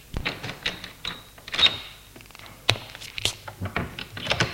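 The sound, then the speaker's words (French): A key taken from a pocket rattles and turns in the lock of the front door of a small upscale apartment building on the boulevard des Belges, with a run of sharp metallic clicks, then a solid clunk as the door is pushed open, followed by more scattered taps. No voices. “Prend une clé dans sa poche et ouvre la porte d'entrée.”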